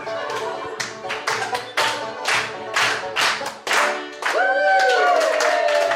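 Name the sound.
audience clapping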